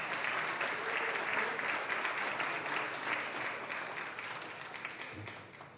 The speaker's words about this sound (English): Ladies and gentlemen, let's give a round of applause.